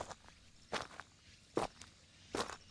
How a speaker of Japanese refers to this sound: 庭先をこうやってゆっくり歩くことで出る音がとても癒されますよね。